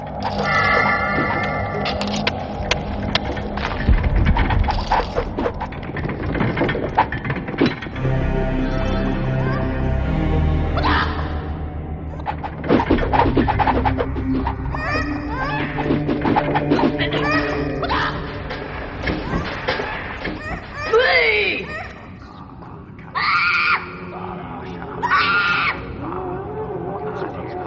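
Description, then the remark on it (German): Video game dungeon ambience, a sound tour from the gold fields through the training room and chicken farm to the torture chamber and temple: a dense, shifting mix of rumbling, clattering effects, creature-like cries, gasps and cackling, with shrill rising and falling wails toward the end. “Lass uns mal schnell auf Hörreise durch einen Dungeon gehen.”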